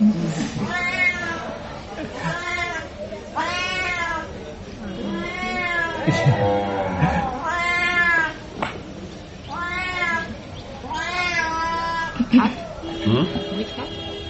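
A cat meows over and over, a string of loud, drawn-out, rising-and-falling cries coming every second or two with brief gaps between them.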